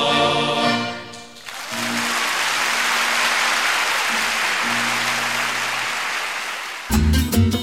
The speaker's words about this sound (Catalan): ja haureu escoltat aplaudiments, perquè era una de les actuacions que va fer